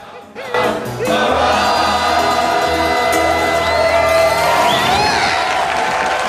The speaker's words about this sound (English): Two balconies lined with partially clothed men and women in frilly dresses join in the applause.